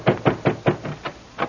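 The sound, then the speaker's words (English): Someone knocks on a door seven times in a quick, steady rhythm, the first four knocks loud and solid, the rest a little softer, with no voices. “you going to open up, or do I have to break the door down?”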